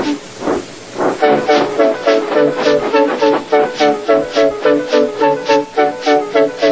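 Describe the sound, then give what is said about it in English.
A steam locomotive, James the engine from the Thomas stories, puffs away, starting with a couple of slow chuffs and then settling into a steady, fast, rhythmic beat of loud, hissing puffs with no talking. “James was delighted and puffed away.”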